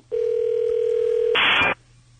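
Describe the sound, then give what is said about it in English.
A steady, loud telephone ringing tone sounds on the line for just over a second as a call is placed to a guest, then cuts abruptly to a brief harsh burst of noise before going quiet. No one speaks. “Instead, the phone seems to be ringing.”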